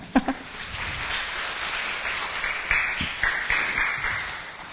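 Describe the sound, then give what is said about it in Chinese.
An audience applauds one person who raised a hand, breaking into steady applause, a dense patter of many hands clapping that holds for several seconds at a moderate level, with a few sharper claps standing out near the start. “哦，有一位，好，我们为他鼓掌一下。”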